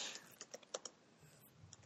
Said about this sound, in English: I hear the typing.